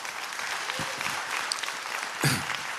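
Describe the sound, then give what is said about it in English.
An audience applauds on cue, a dense wash of clapping that holds at an even level for a few seconds, with a brief louder swell near the end and no voices. “That's your cue to applaud.”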